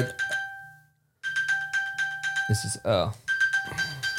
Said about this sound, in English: You know you can stop that alarm? Yeah. It says find my phone alert.